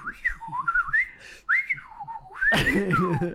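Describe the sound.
Someone whistles a warbling, bird-like call, the pitch gliding up and down in quick chirps, then ends with a louder, raspier squealing sweep that rises and falls away.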